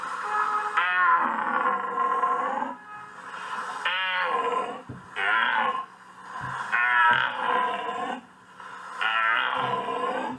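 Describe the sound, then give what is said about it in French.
A 16-year-old from Libramont, Belgium, imitates a red deer stag's rutting bellow with five loud, drawn-out, throaty roars, separated by short breaths, with no talking. “Les gens croient que le cerf, il fait ça pour attirer les biches.”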